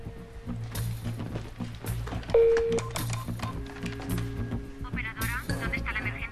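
Telephone being dialed, with a distinct electronic beep standing out midway through a dense, layered background of rumbling ambience and muffled sounds, followed by fainter warbling tones near the end.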